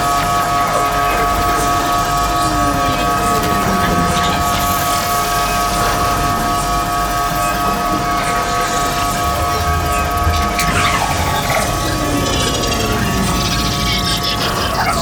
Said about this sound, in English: set the flying train to its fastest speed.